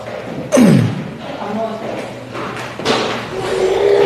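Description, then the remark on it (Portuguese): A door is pushed shut with a creaking swing and a solid thud near the start, followed by a second softer bump; muffled voices murmur in the background throughout. “Costa a porta, por favor.”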